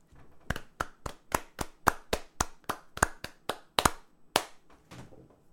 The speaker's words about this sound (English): We're both men, and that was clapping, so yep. I guess... I clapped to the tune of Good King Wenceslas. Which, not really tune. Rhythm was also Yankee Doodle.